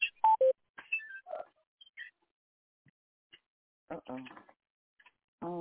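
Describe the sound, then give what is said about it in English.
A phone line drops as the caller hangs up and the call is cut off, with a quick burst of short electronic beeps at different pitches, then near silence with faint clicks, followed by brief bits of someone talking. “He hung up. His phone got cut off.”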